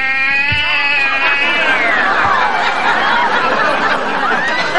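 A cat lets out a long, loud, pained yowl, its wavering pitch sliding down and then rising again, sustained for several seconds with no talking over it.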